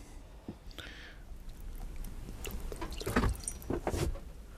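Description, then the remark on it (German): A small amount of water, 50 milliliters weighed out on a scale, poured into a pot in short, uneven trickles and splashes, fairly quiet, with soft handling noises and no one speaking. “fehlen uns jetzt noch 50 Milliliter Wasser. Die werde ich jetzt hier mal versuchen, ebenfalls mit der Waage abzuwiegen”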